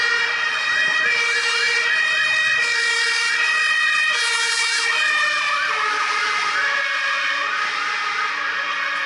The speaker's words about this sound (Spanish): Es el mismo principio que percibimos cuando una ambulancia se aproxima y después se aleja.